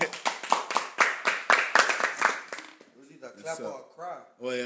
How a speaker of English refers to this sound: All right, y'all clap for that.